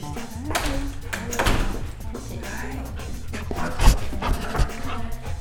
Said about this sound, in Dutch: Nou, hij mag wel weer binnen. Het is wel leuk, een beetje hondenachtergrondgeluiden.